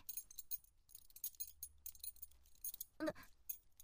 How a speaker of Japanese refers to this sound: あれ？入らない。え？待って、そんなはずは。ごめん。この手錠の鍵、違ったみたい。